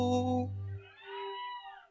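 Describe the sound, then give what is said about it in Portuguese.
A cat lets out one drawn-out meow, clear, starting low and full before sliding into a thinner, wavering tone that fades near the end. No voices. “Pega um gato, arrocha um gato, não é gato, é uma gata.”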